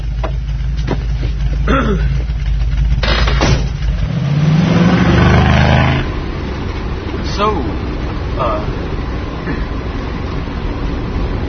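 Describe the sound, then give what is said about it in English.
A car engine idles, then revs up with a rising, steady roar for a couple of seconds before settling into a low rumble as the vehicle pulls away; faint voices murmur underneath. “I mean, give you a ride home in my car to your house.”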